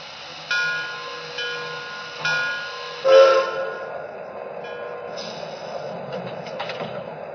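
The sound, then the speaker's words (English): Passenger train number 58 rolls steadily along the rails, its low rumble broken by a few evenly spaced clacks over the track joints and a brief high squeal partway through, with no voices. “Train number 58, the Liberty Limited.”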